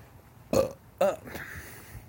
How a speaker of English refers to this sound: Excuse me. I burped.